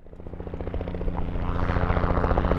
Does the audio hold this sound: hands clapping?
no